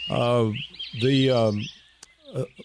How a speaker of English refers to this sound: Boy, we got loud birds in here today.